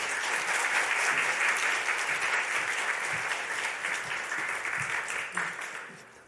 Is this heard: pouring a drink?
no